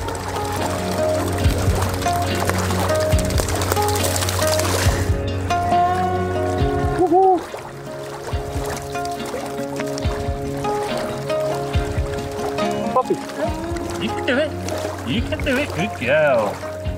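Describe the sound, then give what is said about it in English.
Water splashes and sloshes steadily in a flowing stream, with irregular bursts of churning as an animal plays and moves through the water, and a voice is heard at times. “She's never played in the water like this before.”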